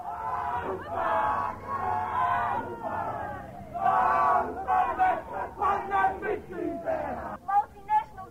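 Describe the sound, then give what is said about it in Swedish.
A large crowd of Māori protesters in central Auckland, New Zealand, shouts and chants together in loud, rhythmic bursts, voices rising and falling in unison with strong pulses toward the end. “Nya Zeelands urinvånare, maorierna, protesterar i centrala Auckland.”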